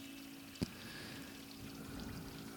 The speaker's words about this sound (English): An easy way to arrive in the present moment is to listen to the sounds. If you strain your ears a little bit, you might hear the beautiful soothing sound of the waterfall on our Giriraj.